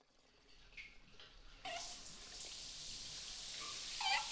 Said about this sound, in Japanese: では、シャワーで洗っていきますね。お湯加減はいかがですか？